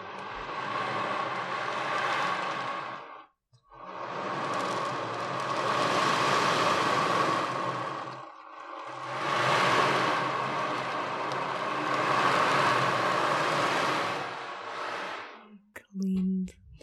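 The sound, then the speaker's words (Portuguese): An ocean drum, made with somewhat primitive, older materials, rolls out three long, steady washes of hissing, rattling noise, each swelling and easing off like surf, with short gaps between them and a brief voice at the end. “E depois existe também outro tambor que tem o meu coração, né, porque eu gosto muito do mar, e então, que é o tambor do mar, que é muito bonito.”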